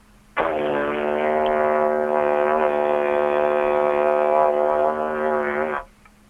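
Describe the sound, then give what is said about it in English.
A single didgeridoo drone, played in a studio on part of a didgeridoo, starts abruptly and holds a low, buzzy, harmonically rich tone at steady loudness for about five seconds before cutting off. No one speaks over it. “did you bring your didgeridoo into the studio today?”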